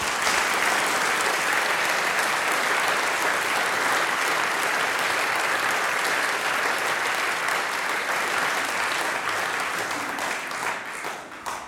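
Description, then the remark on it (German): Sustained audience applause for a singing group, a dense, steady wash of many hands clapping at an even loudness for about eleven seconds, tapering slightly at the end. No voices stand out. “Das ist euer Applaus, vielen herzlichen Dank.”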